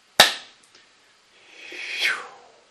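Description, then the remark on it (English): A group claps together at once on a count of three to seal a ritual work, a sharp, loud burst dying away quickly, followed after a short pause by a soft hissing swoosh that swells and fades. No one speaks. “After the count of three, we'll clap to seal the work.”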